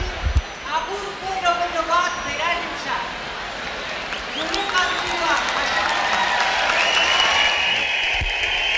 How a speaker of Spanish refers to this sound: Podemos oír ahí esos aplausos